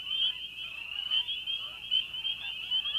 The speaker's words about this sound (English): The ducks fly away, and all we hear are the calls of frogs. No, listen.